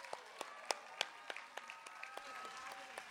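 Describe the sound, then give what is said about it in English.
An audience applauds a group after they sing Amazing Grace, with scattered sharp claps rising out of a steady patter of clapping that continues for several seconds at a moderate, fairly soft level. “Let's hear it again for the ….”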